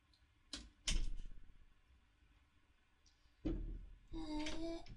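A home's door is opened by a husband for his wife, who forgot her keys: two sharp metallic clacks of the latch and lock, a pause, then a thump and a drawn-out creak as it swings. No voices.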